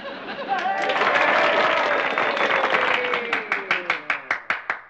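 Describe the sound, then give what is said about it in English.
An audience at a tell-all meeting bursts into loud, dense applause mixed with murmuring voices, then the clapping thins out into a handful of single, evenly spaced claps before it ends. “The least I can do is applaud for him.”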